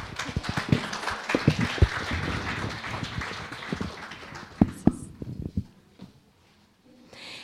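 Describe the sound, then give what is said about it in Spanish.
An audience breaks into steady, dense applause with a few sharper individual claps standing out, carrying on for about five seconds before thinning out and fading to near silence. The applause is for a singer and composer, to inspire her. “Un aplauso, por favor, para que se inspire.”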